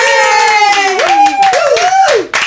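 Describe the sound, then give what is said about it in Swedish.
A small group claps steadily for a couple of seconds to welcome a guest while several voices whoop and cheer over the applause, with rising and falling tones, before the clapping fades at the end. “Det där var tomma applåder.”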